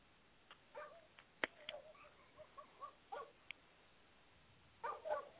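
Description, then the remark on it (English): Faint, distant dogs or coyotes barking and yipping in scattered short bursts, ending with a quick cluster of yelps, over a quiet outdoor background with no talking. “Who let the dogs out? That's what I'm saying, dude. They're like, everywhere. And they're loud. Coyotes. Are those coyotes?”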